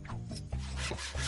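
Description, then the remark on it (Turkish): A hand saw rasps back and forth in quick, steady strokes, a gritty scraping rhythm, with no voices. “Testere.”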